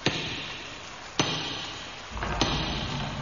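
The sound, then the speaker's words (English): Three firm knocks on a wooden door of a house in pouring rain, evenly spaced about a second apart, each a sharp thud ringing over a steady background hiss, with no voices. “Knock at the door.”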